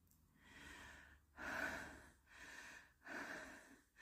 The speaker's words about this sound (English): You're breathing so hard, so deep.